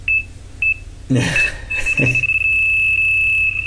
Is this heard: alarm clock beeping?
yes